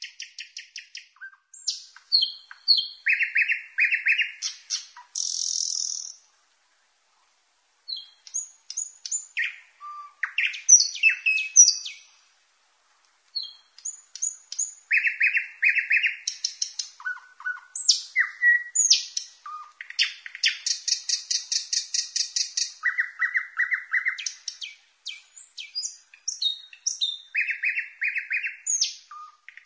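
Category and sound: bird, nightingale song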